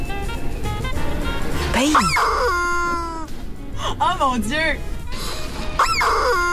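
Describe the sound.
A squeaky rubber chicken dog toy lets out three loud, wailing squawks that swoop up and down in pitch, while people talk and exclaim throughout.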